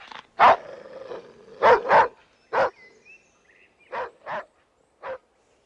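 A dog barks loudly, about seven sharp barks in singles and quick pairs, separated by short pauses, with no one talking.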